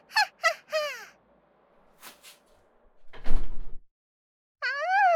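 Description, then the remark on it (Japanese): A door is shut with a single solid thud midway through, while a crow caws several times before and after it. No one speaks. “ドア閉めないでくださいよ。”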